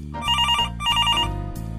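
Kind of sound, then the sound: household object, telephone ringing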